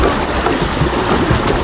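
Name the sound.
rushing river current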